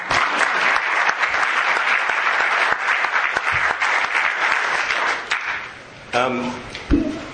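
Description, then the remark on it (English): An audience applauds with dense, steady clapping for about six seconds, then the applause thins out and a voice starts speaking. “And we should all applaud.”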